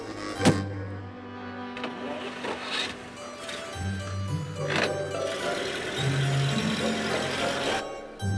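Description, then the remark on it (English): A limousine's engine hums steadily while an electric power window whirs up or down, with a sharp click near the start and brief mechanical shifts throughout. “CJ, it's a limousine. It's a limousine with Tiffany.”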